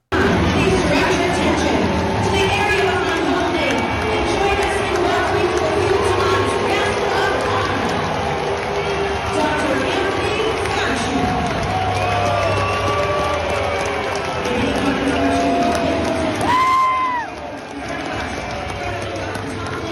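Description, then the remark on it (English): A baseball stadium crowd at a Seattle Mariners game in Seattle claps as Dr. Fauci throws out a pitch, amid a steady roar of chatter and cheering, the dense noise holding for about seventeen seconds before easing slightly near the end. “So again, you may say, oh, Benny, we see some people clapping.”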